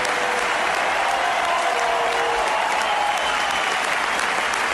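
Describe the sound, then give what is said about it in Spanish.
A large stadium crowd at the Martínez Valero gives a sustained ovation as footballer Saúl, number 8, is substituted. Dense applause and cheering roar steadily throughout, with a faint tonal whistle-like rise running through the middle of the roar. “la ovación que le dieron ahí en su ciudad”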